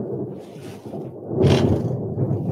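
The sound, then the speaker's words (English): A deep, continuous rumble of thunder from nearby lightning swells into a sharper, brighter crack about halfway through, then settles back into a heavy low roll. No one speaks. “Whoa, more lightning.”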